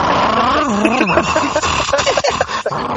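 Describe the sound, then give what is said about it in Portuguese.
A human voice imitates a car engine as a video game sound effect, revving with wavering, rising and falling pitch, then sputtering into short choppy bursts, loud for about three seconds. “A impressão que eu tenho é que alguém pegou um microfone e disse, cara, precisamos fazer o barulho do carro.”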